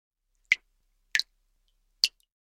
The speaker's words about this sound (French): Goutte d'eau.